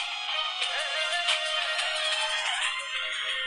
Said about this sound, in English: That is my ringtone. Rest in peace, headphone listeners.